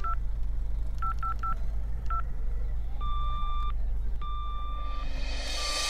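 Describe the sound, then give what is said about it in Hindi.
A telephone keypad dialing tones: about six quick, clear beeps in an uneven rhythm, then longer steady ringing tones over a constant low hum, with no one speaking. “अच्छा, तो फिर मैं एक बार ट्राई करता हूँ और आपको वापस कॉल करता हूँ।”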